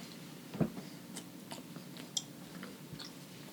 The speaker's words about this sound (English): We're both trying to chew right now. Sorry. It is super dry. I mean, It tastes like a protein bar.